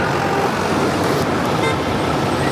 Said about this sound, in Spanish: En plena ciudad, entre el ruido del tráfico y el ritmo acelerado, hay también quienes han decidido darle una segunda oportunidad, una segunda vida a su profesión.